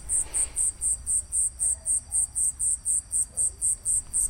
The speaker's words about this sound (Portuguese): Aqui está bom, um carro passou, pausa, os grilos voltaram.